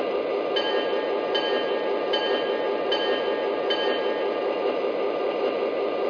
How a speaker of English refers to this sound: Now we're arriving from Chicago on track one, train number six, the Fifth Avenue Special.